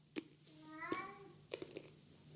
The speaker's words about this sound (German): Ja, der Kater ist gerade zu hören. Ja, ich habe ihn gehört. Ja, es gab nämlich Fressen und danach muss er immer mal kurz die Mauzer rauslassen.